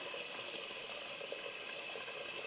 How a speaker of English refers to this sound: Who's that running water? I am. I'm cooking. I can multitask. Man. That's loud. It's loud. It's real loud.